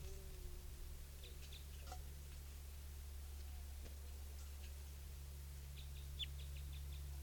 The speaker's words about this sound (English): And the two wild birds are type 2s, and they're flying around here. I'm not able to catch them right now.